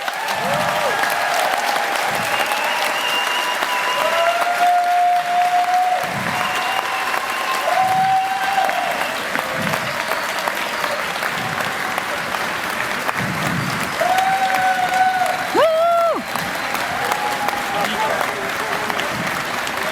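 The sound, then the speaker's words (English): An audience at a camp claps steadily and loudly for about twenty seconds for the camp's team, with scattered cheers and a few high, sustained whistles rising above the dense wash of clapping. “So please give them a big hand of applause.”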